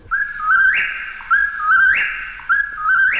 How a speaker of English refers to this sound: Whippoorwill